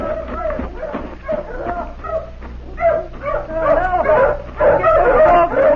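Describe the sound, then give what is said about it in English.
Several hounds bark, yip and whimper in an excited, overlapping jumble after finding something in a thicket at the bottom of a valley, growing louder toward the end, with tonal whines rising and falling between the sharper barks. “Pulling your dogs off, mister.”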